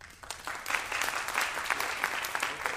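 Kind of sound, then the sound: crowd, audience clapping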